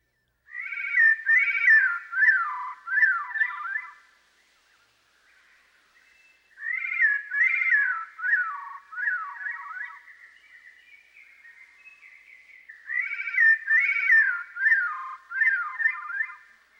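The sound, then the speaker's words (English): Veery song played at half speed: three drawn-out phrases of spiraling, downward-twisting flutelike notes, the bird singing in harmony with itself and producing more than one sound at a time. Each phrase lasts a few seconds, separated by short pauses, clear with no talking. “The Veery's self-sung duet is a good example of how a bird can produce more than one sound at a time.”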